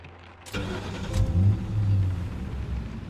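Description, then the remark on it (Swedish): A car engine cranks and catches with a sharp burst as someone gets in to drive home, then revs and settles into a steady low rumble as the vehicle pulls away, fairly loud with no talking. “sätter sig i bilen för att åka hem”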